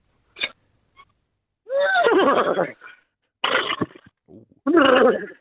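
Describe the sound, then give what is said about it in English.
A person imitates a horse whinny with a series of loud, shaky, warbling vocal bursts separated by short pauses, starting with a quick breathy snort, then several longer neighing cries. “I'm bringing a horse.”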